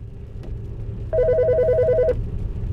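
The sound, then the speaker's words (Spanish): A telephone rings once in a rapid trilling burst lasting about a second, loud, over a low rumbling background hum. “Es que he cogido el teléfono sin mirar.”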